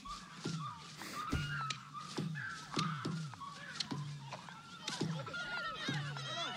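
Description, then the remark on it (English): Birds call over and over in a steady, repeating series of harsh, cawing cries, moderately loud, with higher chirps and twitters joining near the end. “Birds.”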